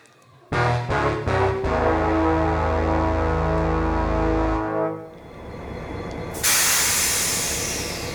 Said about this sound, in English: Now, let's get on that train.